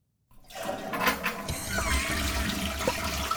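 toilet flush sound effect

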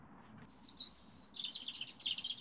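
birds chirping

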